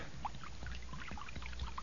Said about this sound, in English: Well, I done found a jug of acid here. Now I'm gonna start pouring it now.